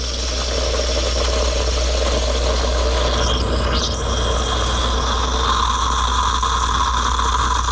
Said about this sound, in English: Congratulations, if you knew we were looking for a steamer or frother. I should play that for you again.